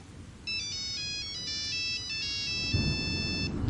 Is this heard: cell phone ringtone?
yes